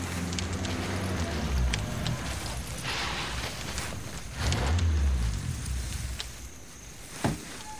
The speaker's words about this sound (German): Ein Auto kommt, duckt euch.